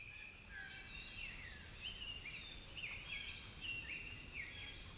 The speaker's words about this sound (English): And, as is usually the case, I suddenly awaken to the songs of birds.